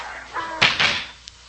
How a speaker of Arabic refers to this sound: الله قال لنوح اجمع أهل بيتك وكل ذكر وأنثى من الحيوانات، ادخل معهم من باب الباخرة. اسمع لهم. وبعدين الله بند الباب.